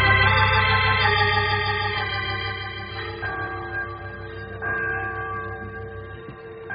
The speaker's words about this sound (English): Oh, there goes that church bell again.